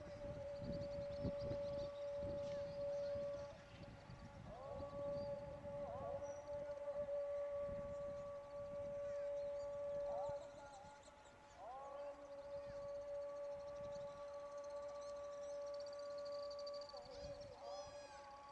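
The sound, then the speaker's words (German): A loudspeaker-amplified Islamic call to prayer drifts over a neighbourhood in Morocco in the evening, heard from a house rooftop, long wavering sung tones held steadily over a low background murmur of street activity. “Der schönste Moment für mich war jedoch, wenn ich abends auf dem Dach lag und in den Himmel starrte und wenn dann noch aus dem ganzen Geschehen in der Nachbarschaft der Ruf zum Gebet erklang.”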